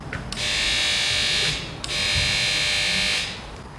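A door buzzer at a Caritas counseling office in Oberhausen, Germany, sounds twice, each a harsh, steady electric drone lasting over a second with a short gap between them. No one speaks.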